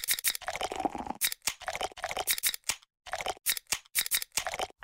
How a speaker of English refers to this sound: We've invented a new messaging system using the crisp sounds of Bud Light. Crisp Code. Lesson 42. This is how you say happy hour.